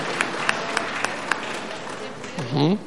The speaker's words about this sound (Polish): Gratulujemy. Oklaski, aplauz.